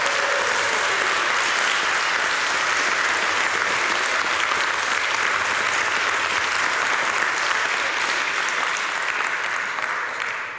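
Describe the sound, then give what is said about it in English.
Sustained audience applause, a dense, steady wash of many hands clapping at a fairly loud level for about ten seconds, tapering slightly at the end with no speech over it. “They didn't clap for the photo”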